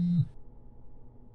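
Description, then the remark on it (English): A single short electronic phone notification beep sounds right at the start, loud, then cuts off, leaving only faint low background noise. “Look at your phone. Another notification comes through.”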